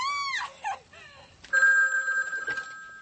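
A dog gives a brief, high wavering whine, then a telephone bell breaks in with a loud, steady electronic trill that holds for over a second before trailing off.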